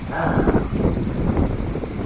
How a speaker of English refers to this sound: With the wind. It's always windy down here.